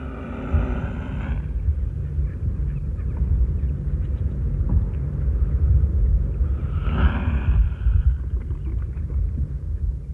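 An angry mute swan gives two harsh, breathy hisses, one at the start and another partway through, over a steady low rumble.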